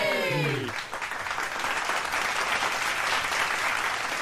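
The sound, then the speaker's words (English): A crowd claps steadily for about four seconds, a dense, even patter of many hands that stays loud throughout, following a brief falling tonal sound at the very start. “It's like a feel like people are clapping.”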